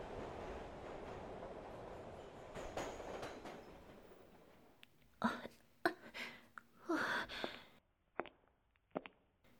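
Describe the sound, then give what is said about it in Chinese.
A subway train rumbles steadily along the tracks, loud, then gives way to a series of sharp, uneven clanks and rattles before fading near the end. “我记得附近好像是有一个地铁站，我还是坐地铁回家吧。”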